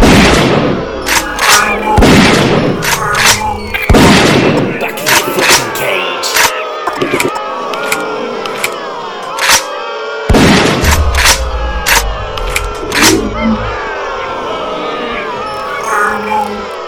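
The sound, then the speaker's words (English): Shotgun blasts go off in a loud, irregular barrage: several heavy booming shots mixed with many sharper cracks in quick succession, all overlapping with a constant background clatter and no talking. “Give me a shotgun.”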